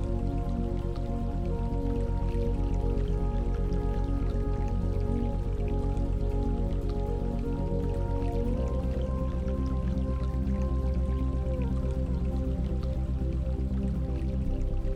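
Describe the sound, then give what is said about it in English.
Water trickles and drips steadily from a spring nearby, among lush green evergreens and pines, a continuous wet burbling with small droplet sounds, layered over a sustained low tonal drone throughout. “You become aware of the sound of water trickling from a spring nearby.”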